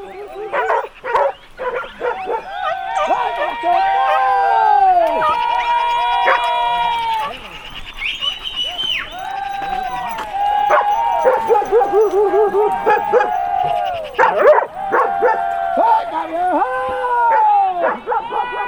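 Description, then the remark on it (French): A pack of trained hunting hounds bays and yelps continuously while chasing a fleeing wild boar across a mountain at full speed, many voices overlapping in rising and falling howls and sharp barks, loud, with a frantic, excited rhythm throughout. “Le groupe de limiers continue à parcourir la montagne à toute vitesse.”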